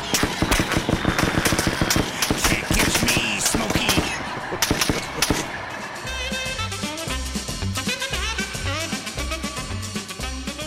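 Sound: gunshots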